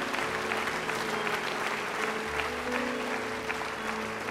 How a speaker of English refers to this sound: But they chose to come here because their hearts are so filled with the Lord Jesus Christ. And I think they deserve, again, a great clap.